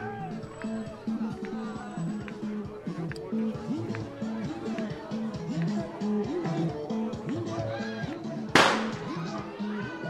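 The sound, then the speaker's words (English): A single sharp firework bang bursts out near the end, set off indoors beneath a roof by a train station, with smoke all around, over the steady chatter and babble of a large gathered crowd that fills the whole scene. “Of course, the fireworks are going off inside.”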